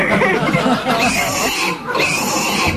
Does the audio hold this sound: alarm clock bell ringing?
no